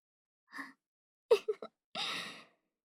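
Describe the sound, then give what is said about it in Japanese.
Close, heavy panting: a short breath, a quick cluster of sharp gasping inhales, then a long, breathy exhale, like someone catching their breath. No one speaks. “なんか息切れてない？もしかして走ってきちゃった？”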